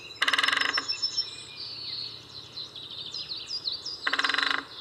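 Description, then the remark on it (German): Two short, rapid bursts of woodpecker drumming rattle against wood, one at the start and one near the end, with birds chirping and calling softly in the background. “Da hört man richtig, wie das Holz so knattert.”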